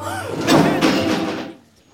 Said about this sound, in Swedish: Men så öppnas dörren till aulan.